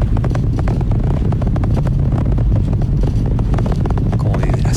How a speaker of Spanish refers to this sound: Eso es lo que uno escucha, ¿no? Y los motores están aumentando su fuerza de nuevo para continuar el ascenso hacia el espacio.